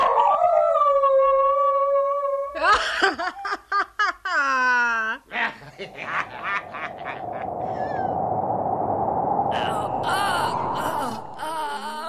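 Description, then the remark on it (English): A dog howls in long, wavering, drawn-out notes, then breaks into choppy yelps and rising cries before a rough, noisy stretch takes over; fairly loud, with no talking. “The dog started howling.”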